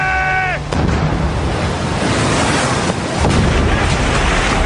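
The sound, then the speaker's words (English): Loud, dense noise of a battle between ships on a nearly windless day, cannons and muskets fired at close range: heavy booming blasts and sharp gunfire cracks, rumbling continuously with a broad roar; a brief tonal ring sounds at the very start. “But there was still the mayhem of battle, cannons and muskets being fired at close range.”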